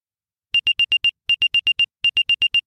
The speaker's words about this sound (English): So yeah, moving with you has a specific noise, and this is what it is. When an unknown AirTag has been moving with you over time.